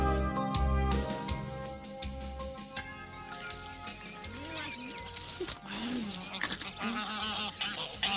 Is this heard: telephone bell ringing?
no